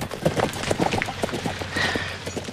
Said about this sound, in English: Jeb mounts his horse, takes the reins from one of the attendant slaves, and rides away.